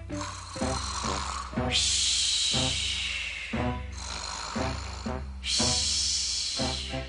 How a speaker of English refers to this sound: The castle shook with snores, rumbling from under the blanket in Jerry the Giant's bedroom.